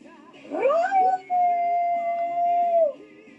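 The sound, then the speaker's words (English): A single loud, powerful howl swoops upward, then holds a long, steady, piercing note for nearly two seconds before falling away at the end. No talking, just the howl. “Leroy snaps back into contact with Tropical Storm, unleashing a powerful howl.”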